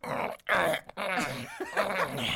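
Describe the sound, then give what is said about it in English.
A man's voice imitates the heavy, rhythmic breathing of a man mid-coitus, fairly loud: breathy groans and panting pulses in quick succession, with brief pauses between them and no words spoken. “The fighting had apparently been resolved as the sounds of an argument were replaced by the heavy breathing of a man mid-coitus.”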